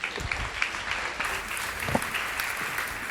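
A crowd claps steadily, a dense, even wash of many hands with no break for the whole stretch and no talking on top.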